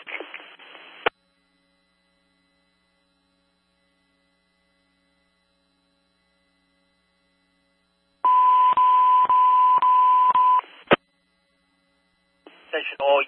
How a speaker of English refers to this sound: Operating on 190 Valley Street for box 1501 for car 31. Evacuation tone is being transmitted.